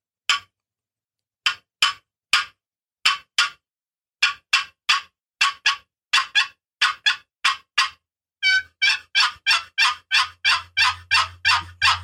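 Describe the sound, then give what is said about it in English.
A turkey box call rasps out sharp, irregular cutting notes imitating an excited hen, then shifts into a fast, steady run of loud yelps imitating an aggressive hen near the end, with no talking over it. “And she'll yelp like that. And she's showing aggression.”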